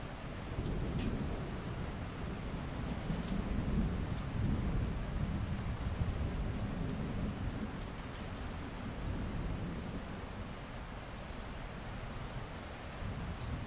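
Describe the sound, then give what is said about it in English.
Steady heavy rain hisses throughout while deep, rolling thunder rumbles low underneath, swelling and fading but never quite stopping, with no voices present. “We seemed to be the only souls on the road for miles, the storm threatening to strike at any moment.”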